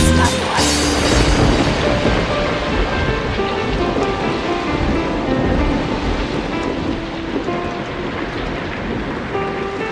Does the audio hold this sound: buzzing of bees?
no